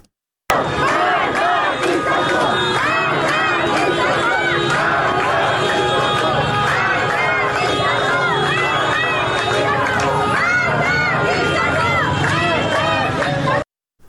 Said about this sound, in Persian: بنابر گزارش های رسیده به رادیو فردا، به دنبال انتشار خبر درگذشت مهسا امینی، تجمع های اعتراضی در نقاطی از شهر تهران برگزار شد. در این اعتراض ها شعارهایی علیه مقام های حکومتی به ویژه علی خامنه ای سر داده شد.